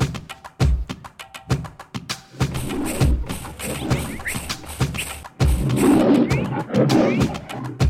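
A tiger growls and roars repeatedly in a video game over busy game sound effects, with thumping impacts and a steady electronic hum throughout, fairly loud.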